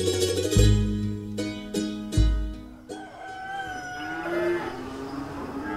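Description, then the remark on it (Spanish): Cows moo in a few deep, drawn-out calls, followed by a rooster crowing and other farmyard animal sounds in the background. No one speaks. “Las vacas se ordeñan desde las 5 de la mañana para tener lista la leche temprano.”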